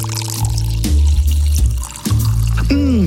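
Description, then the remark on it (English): Munich-style, London-made St. Wrytham Lager from Inkspot Brewery pours steadily into a glass, a loud continuous glugging gush with a pitch that rises as the glass fills toward the end. No one speaks. “You know, normally at this time of day, usually after 10:30 in the morning, I like to turn to Inkspot's St. Wrytham Lager.”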